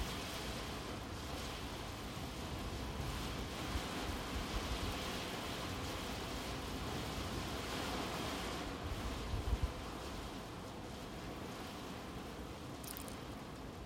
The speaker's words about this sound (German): Horche, wie der Regen an die Fenster prasselt.